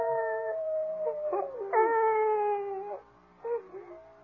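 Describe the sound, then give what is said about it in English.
A coyote's howl rises and wavers in long sustained tones, broken by a couple of sliding yips, with no talking over it. “No, I think it's that howling coyote that's bothering you.”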